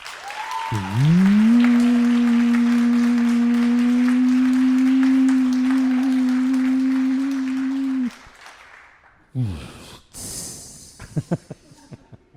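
Crowd applause, a dense, steady clatter of many hands, runs under a loud, sustained droning tone for several seconds, then cuts off abruptly, leaving scattered claps and a few brief noises.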